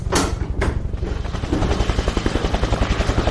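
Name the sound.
helicopter flying overhead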